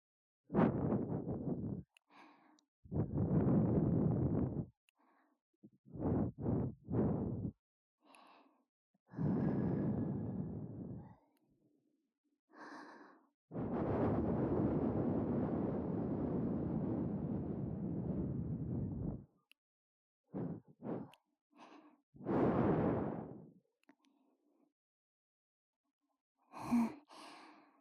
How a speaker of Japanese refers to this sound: くすぐったいかな。少しこうやって、吐息で汚れを飛ばしていくからね。